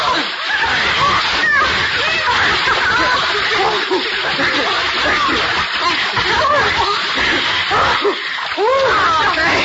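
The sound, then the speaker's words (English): Steady, busy splashing of four swimmers racing across a pool, loud and continuing without pause for the whole stretch, with faint voices mixed into the churn. “no splashing. Come on, everybody swim. Race across the pool.”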